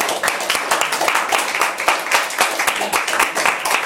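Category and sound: crowd, audience hand clapping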